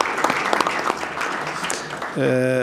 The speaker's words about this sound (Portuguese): Mas como ele pediu uma salva de palmas para mim, e eu fui responder para ele e não dei as palmas, uma salva de palmas para ele agora, pela luta dele.